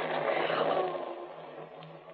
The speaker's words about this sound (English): No. That's real. That's thunder. There'll be rain.